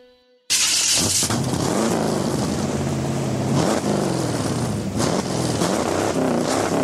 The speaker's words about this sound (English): That, for instance, is the sound of guitarist Jimmy Vaughn's 1951 Chevy Fleetline